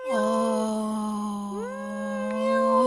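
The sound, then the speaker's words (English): A person imitates a kitten's meow, one long, drawn-out wavering call that dips and rises midway, loud, with nothing else around it. “And on the inside, from the inside of the box, I heard, meow. Meow.”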